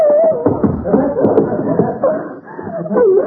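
A dog howls in long, wavering cries that rise and fall, loud, with a muffled, busy background running underneath throughout.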